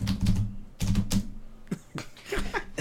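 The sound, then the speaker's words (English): A voice imitates the computer typing sound from the game Perfect Dark on the Nintendo 64: a few rapid, clicky bursts with a buzzy, voiced undertone, then a quicker run of sharper ticks, moderately loud and with no other talk. “What I like about the game Perfect Dark on the Nintendo 64 is that whenever you use the computer, they all had the same typing sound, which was...”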